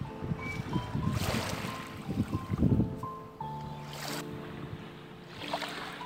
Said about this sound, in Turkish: Sesler seni tam bir rahatlık hissine sürüklüyor. Denizin sesi, rüzgarın sesi, kuşların sesi.